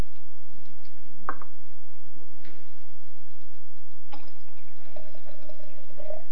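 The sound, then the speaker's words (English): A few sharp clinks, then clear water pours steadily into a container, its pitch rising as it fills over the last second or two. No one speaks. “Look, we just poured water here. You see, they're all clear.”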